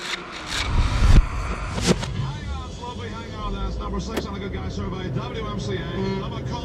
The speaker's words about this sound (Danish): Her sidder Else i en bil. Hun har kørt næsten 700 kilometer.